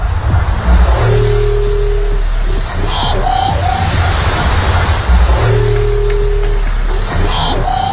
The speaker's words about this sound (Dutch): Het blijkt nu de roep van een walvissoort te zijn. Dat was al jarenlang het vermoeden, maar echt bewijs is er nu pas.